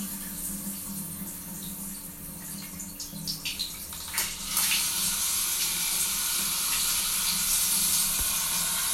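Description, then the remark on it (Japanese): A shower starts with a few splashes and quickly becomes a steady hiss of running water that continues evenly to the end, with no voices. “あんまり水がね強いと声が聞こえなくなっちゃうと思うので、ちょっと弱めにして”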